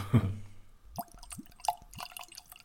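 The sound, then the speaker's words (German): A short dull knock, then a whisky sample, the third whisky of a tasting and pale gold in colour, trickles and glugs into a glass in several rising gurgles, fairly quiet, with no one talking. “Dafür klingt das Eingießen immer bei den Samples umso schöner. Sanft plätschert es ein.”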